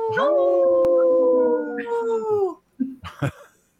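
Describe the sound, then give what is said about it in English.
A person imitates a wolf howl: one long, loud, steady wavering note held for about two and a half seconds, trailing off, followed by a few short yips. “Let's do that again, …. Howling for wolves.”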